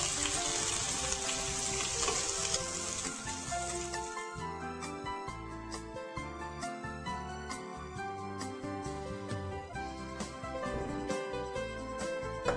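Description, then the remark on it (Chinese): Soy sauce liquid poured over pork belly in a hot pan to braise it, covering the pork completely: a loud splashing hiss for the first few seconds that settles into a steady simmering sizzle under background music. “好，我们就把这个五花肉呢直接放到这个锅子里面，你稍微啊，来这样子大家看清楚一点，稍微用这个酱油水呢，好，把它呢全部都浸过。”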